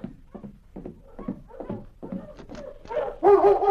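A sled dog team, including a collie named Lady, barks and whimpers in a restless, overlapping clamor after stopping outside a cabin, the yelps growing louder and more excited toward the end.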